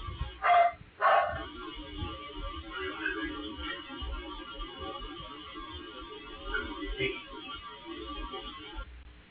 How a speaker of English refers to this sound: The dog, one dog remained inside. I was actually just outside of the house in the yard. A dog barked two times. I think it was my female dog.